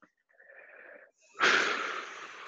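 A slightly wheezy inhale is followed after a short pause by a longer, louder rushing exhale, one deep breath in and out with no talking.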